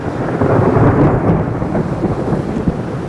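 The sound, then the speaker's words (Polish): A loud, close thunderclap from a summer storm rolls and rumbles heavily for a few seconds, deep and sustained, with rain noise underneath and no voices. “Bo jednak to już uderzenie bliskie.”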